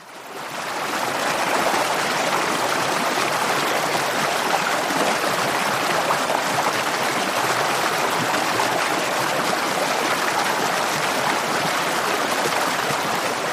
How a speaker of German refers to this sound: Also wir hören schon, es plätschert etwas, es rauscht etwas, es bewegt sich etwas. Lüfte mal das Geheimnis. Was ist dein Sound und was hat das mit Kundenorientierung aus deiner Sicht zu tun? Mein Sound ist der Wasserfall.